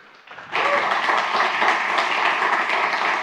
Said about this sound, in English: I was really looking forward to it, so give already a big applause